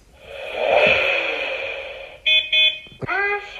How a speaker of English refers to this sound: So we've got him to rev his engine, beep his horn, which is all pretty cool when he's just standing still.